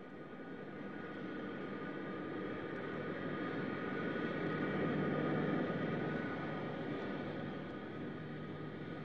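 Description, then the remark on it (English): A jet airplane roars steadily overhead as it approaches the runway to land at New Jerusalem's Victory Field, the broad engine rumble swelling gradually louder toward the middle and then easing slightly, with no voices present. “The plane is landing now, approaching the runway.”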